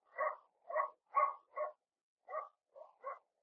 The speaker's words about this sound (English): Down in the other end of town, a dog was barking. Comforting sound. A dog in the night. Comforting.